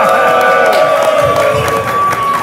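A loud crowd cheers and claps in a dense, continuous roar that stays strong for the full couple of seconds, with a steady high tone running through it.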